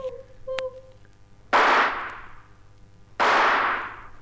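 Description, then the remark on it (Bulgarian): Two loud rifle shots about a second and a half apart, fired by a hunter at a bird, each a sharp crack that booms and rolls away in a long echoing tail, with no talking. “Слуга, подай ми пушката.”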